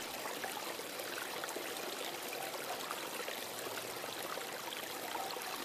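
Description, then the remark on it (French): A steady, unbroken rush of flowing water, like a small stream babbling over stones, from the Minawat, a small coastal river at Tréguin that flows into the cove of Pouldohan, filling the whole clip with no voices. “bordent la rivière du Minawat, un petit fleuve côtier qui se jette dans l'anse paradisiaque de Pouldohan.”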